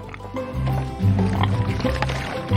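pig snorting

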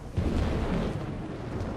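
thunder

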